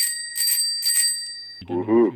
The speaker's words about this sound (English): I love that bell.